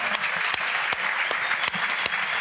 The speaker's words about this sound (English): They are our AT&T student veterans for Saturday's game. A round of applause for them.